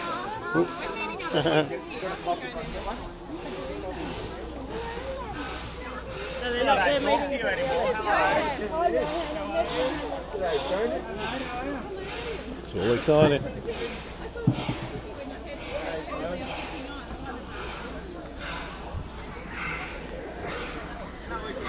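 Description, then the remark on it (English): Steam locomotive engine 6A hisses steadily at a station platform, a continuous breathy rush running under voices and the busy chatter of a crowd taking photos. “Yes, it's Puffing Billy again. Everyone's taking photos. It's engine 6A this time.”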